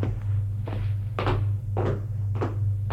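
A few steady, solid knocks on a door, evenly spaced about half a second apart, over a constant low hum with no voices.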